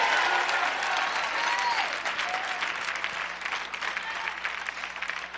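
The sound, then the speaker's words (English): A church audience claps steadily to give God praise, dense overlapping hand claps filling the whole clip, with faint voices and cheers mixed in, the applause easing slightly toward the end. “Somebody in this building, clap your hands and give God praise.”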